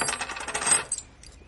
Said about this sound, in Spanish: El comerciante busca entre sus monedas. Le lanza una de ellas sobre la mesa.